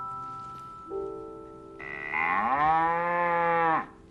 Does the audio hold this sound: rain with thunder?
no